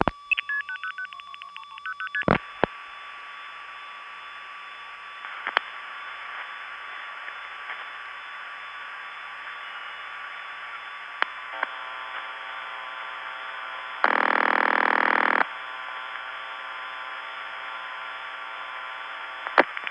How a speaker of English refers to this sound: Now here's an actual phone call going through Thunder Bay's SP1 via Hempstead, Toronto 1, 4162, Thunder Bay SP1, 8074, the Kenora Step Tandem to a CX-1000 in Ear Falls, Ontario.